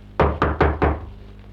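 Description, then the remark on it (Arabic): Four firm knocks on a door by a father returning home, in a quick, even rhythm, fairly loud, with a short wooden resonance after each blow and no voices. “أظن أن طارق أبوك.”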